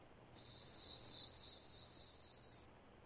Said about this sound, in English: This is short, a prairie warbler.